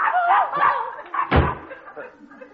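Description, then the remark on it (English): A bedroom door slams shut once with a heavy, booming thud partway through, framed by muffled voice-like sounds before and a quieter murmur afterward. “Oh, no, that was her bedroom door closing.”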